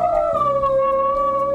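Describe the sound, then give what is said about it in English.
A dog howls in one long, sustained note that dips slightly in pitch and then holds steady, fairly loud, with no voices around it. “The dog started howling.”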